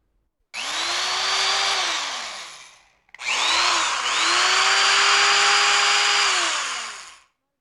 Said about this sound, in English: C. Drill.